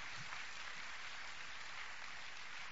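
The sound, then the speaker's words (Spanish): A church audience at Calvary Gospel Church claps steadily for a group of people, the dense patter of many hands blending into a continuous, even wash of applause that holds at a constant level without voices over it. “Let's give these folks a hand one more time.”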